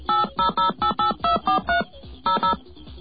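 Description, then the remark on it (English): A quick sequence of touch-tone telephone beeps, dialing to reconnect a dropped call to Bell Atlantic: about nine steady dual-pitched tones in a fast rhythm with a short pause before the last two, each one clear and distinct with no talking. “Wow, let's try connecting again.”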